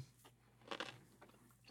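A single crisp bite into a pickle, a sharp wet crunch followed by a few quieter chewing crackles, with a low steady hum underneath and no talking.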